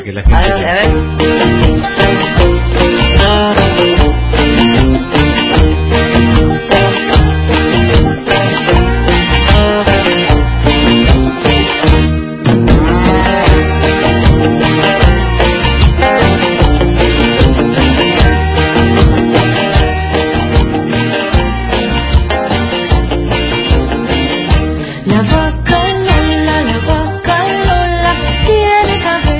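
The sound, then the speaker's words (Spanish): A bouncy children's song about a cow plays loud and steady from start to finish, a dense, upbeat arrangement with a singing voice carried over a busy, rhythmic accompaniment. “A ver, escucha un poquito. Dale, la vaca”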